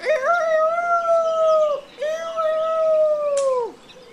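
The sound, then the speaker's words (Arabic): A fox howls twice, each a long, steady, mid-pitched wail that holds its tone and then sags at the end, with a short gap between the two calls. “إنه الثعلب اللعين، لقد جئت إليك أيها اللعين، انتظر انتظر.”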